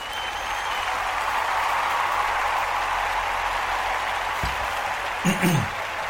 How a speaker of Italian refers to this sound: Quindi applausini e via.